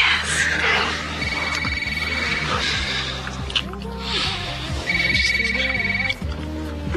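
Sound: telephone ringing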